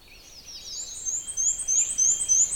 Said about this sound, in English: There's several warblers. The one I'm trying to focus on is a black and white warbler. It goes weecha weecha weecha weecha. There, that's its song. Now there's some interference, of course, because other warblers are singing too.